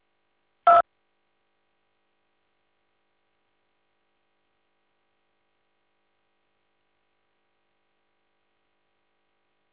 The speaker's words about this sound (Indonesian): Selepas bunyi beep, rakam mesej anda diikuti dengan kekunci hash.